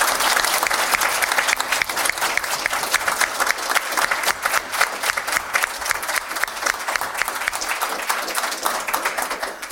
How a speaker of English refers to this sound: Candidates, audience, can we get a round of applause for your candidates, please?